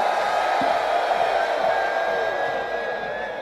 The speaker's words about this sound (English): Put your hands up and on the count of three, scream. 1, 2, 3, scream!